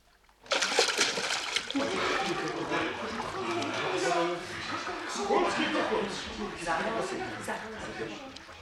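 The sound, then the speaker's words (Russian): Loud, continuous splashing and churning water starts abruptly as servants jump into the water to rescue a drowning man, and it keeps going for several seconds, with excited voices clamoring underneath the commotion. “Слушаюсь, ваше королевское высочество, слуги, вперед, в воду.”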